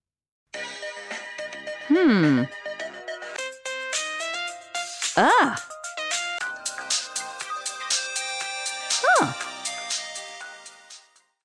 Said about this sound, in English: She's choosing a new ringtone.